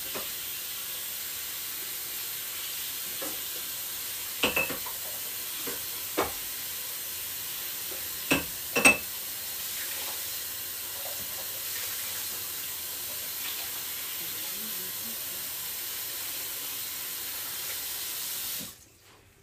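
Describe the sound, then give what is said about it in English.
A faucet runs in a steady, full hiss for nearly twenty seconds while a yellow item is washed beneath it. A few sharp knocks and clinks are scattered through the first half, then the water shuts off. “I'm gonna wash up this yellow real quick.”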